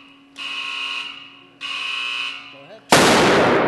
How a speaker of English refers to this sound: The can is vaporized, and I can still feel the thump in my chest.